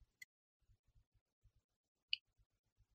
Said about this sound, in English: Hold on. Typing.